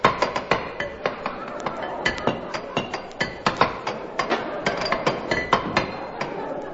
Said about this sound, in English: For 3 years, he and I communicated by tapping on the water pipe.